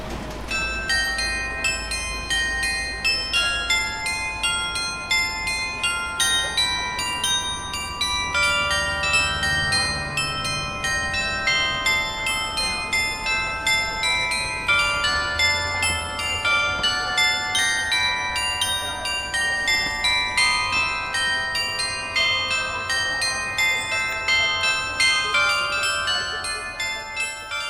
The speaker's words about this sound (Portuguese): São 3 horas da tarde. O edifício das Galerias Paladium, situado na Rua de Santa Catarina, mostra-nos um relógio interessante com um carrilhão e figuras que se movimentam no exterior do edifício.